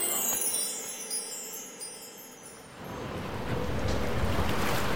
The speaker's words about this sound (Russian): Ух, как задувает. Холодно, доктор. Да там же лед пополам с водой.